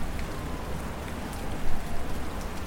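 storm with rain

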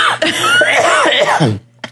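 cough

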